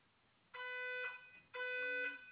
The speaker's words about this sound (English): I'm sorry, there is a fire alarm drill going on in my building.